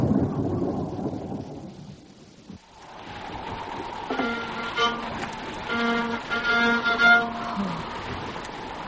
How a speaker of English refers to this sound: Now there's a storm building and a high tide.